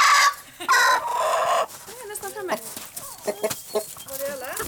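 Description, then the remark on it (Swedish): A rooster in a hen yard lets out a loud, drawn-out crow and then a scattering of agitated clucks and squawks while hens are being herded in through a gate, with faint human speech mixed in. “Nu kommer tuppen också här. Tuppen börjar ha vissa synpunkter på vad jag gör.”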